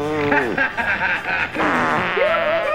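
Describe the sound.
A voice imitates a low, buzzing farting noise emitted by George Bush in a story, a drawn-out raspberry with wavering pitch that rises near the end, lasting a few seconds.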